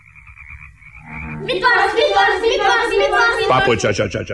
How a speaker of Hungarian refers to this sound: Körülötte játszanak a békaporontyok, fejest ugrálnak a vízbe, és egyre kuruttyolnak.